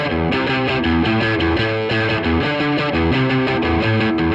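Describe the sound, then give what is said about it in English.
An electric guitar played through a clean amp, a steady run of ringing notes and chords with rich harmonics, loud and continuous throughout with no one talking. “So that's the normal amp, and then.”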